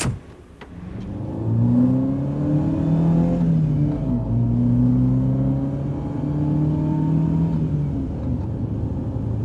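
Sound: car engine running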